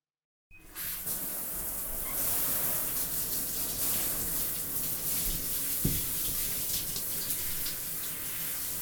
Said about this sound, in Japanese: シャワーで泡流しますよ。